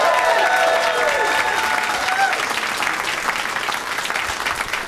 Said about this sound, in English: Yeah, but let's meet them all individually and give them all an individual round of applause, starting with Austin comic, now Chicago comic,